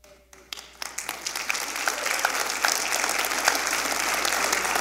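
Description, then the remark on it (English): A church audience breaks into applause after a man stands up, starting with a few scattered claps and quickly swelling into steady, dense clapping from many people that holds for several seconds. “So what are you clapping for?”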